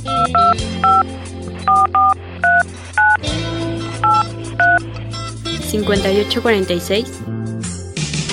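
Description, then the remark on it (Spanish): A rapid series of telephone keypad dialing tones, about a dozen short beeps in quick bursts, sits over steady background music, followed by a brief melodic flourish near the end. “Llámame ahora, llámame ya, llámame por teléfono.”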